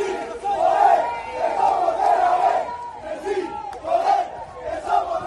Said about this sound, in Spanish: Y el sonido en balonmano del ascenso, de la celebración de los jugadores de la Unión Financiera